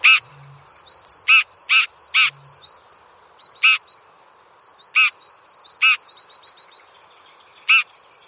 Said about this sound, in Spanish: ¿Qué pájaro estamos hablando? Ah, pues del alcaudón dorsirrojo.